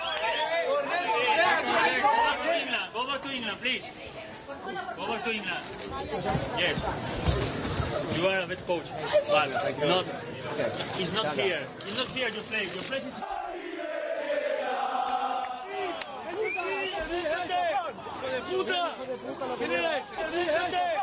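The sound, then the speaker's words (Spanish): Angry Valencia football fans in Paterna shout insults at the players after their team lost to Betis, including shouts of 'Gary, vete ya', a loud crowd of about 40 with overlapping yells and jeers that continues for about twenty seconds, with individual voices rising out of the roar. “Insultos y gritos de Gary, vete ya.”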